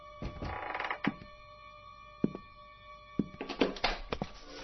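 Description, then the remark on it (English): Someone works a lockpick at a door lock, trying to jimmy the door open: bursts of metallic rattling and jiggling, broken by a few sharp clicks, then more scraping and rattling at the end. No voices. “Somebody's trying to jimmy the door.”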